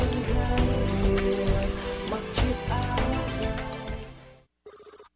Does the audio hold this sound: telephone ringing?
yes